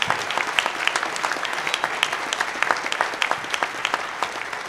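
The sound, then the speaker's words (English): Steady audience applause for a panel, a dense patter of many hands clapping at an even level for several seconds with sharp individual claps poking through, and no one speaking. “Please give a round of applause for our panel.”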